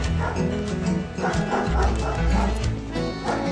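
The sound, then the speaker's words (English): A dog, Chance, barks and yips several times in quick succession, fairly loud, with a few softer whimpering sounds between the barks, during a checkup at the vet. “Chance gets a treat for being such a good dog.”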